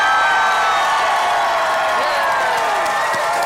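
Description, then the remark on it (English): A loud live audience at a Side Stories and Sinisterhood show roars and cheers, with whoops and scattered clapping blending into a dense, sustained wash of noise that fills the whole moment. “And make a loud cheer because you're live on Side Stories right now and Sinisterhood.”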